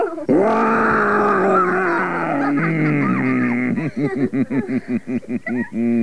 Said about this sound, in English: I feel I'm going to roar. You'd better put your fingers in your ears.